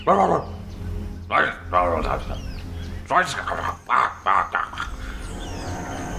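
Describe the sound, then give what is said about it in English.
A dog barks repeatedly, around seven loud, sharp barks in irregular bursts, some clustered in quick pairs, with short pauses between them against a steady low background hum. “Ooh, they're like, oh my god, a dog.”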